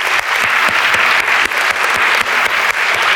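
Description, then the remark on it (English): A large church audience claps steadily for parents and grandparents during a service, a dense, sustained wash of applause from many hands at a loud, even level with no voices standing out. “And I think we should give our parents and grandparents a good hand of applause as well.”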